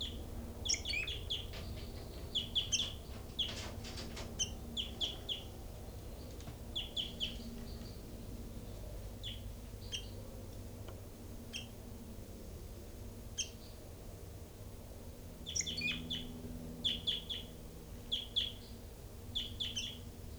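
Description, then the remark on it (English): High, thin calls of caged birds chirp in short clustered bursts over a steady low hum, with scattered twittering notes repeating throughout and a few quieter gaps between the flurries; recorded at the cells of birds numbered 3-3, 5-9, 40 and 06. “And right now I'm at the cells of birds 3-3 and 5-9 and also 40 and 06.”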